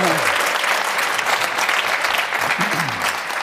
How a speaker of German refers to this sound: Da klatschen die Bayern-Fans hier, das verstehen wir auch.